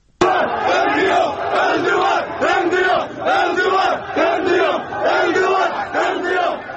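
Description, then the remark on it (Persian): A large protest crowd at a rally in Tabriz or Tehran chants slogans in unison in support of the Republic of Azerbaijan and the retaking of the Karabakh region, voices rising and falling in a steady repeating rhythm of loud, forceful phrases with brief dips between them. “در ویدیوهای منتشر شده شعارهایی در حمایت از بازپسگیری منطقه قره‌باغ سر داده می شود.”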